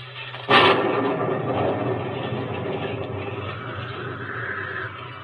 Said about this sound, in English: I don't know how long it was, but then suddenly I felt the rain and realized that the terrible noise in my ears was thunder and wind.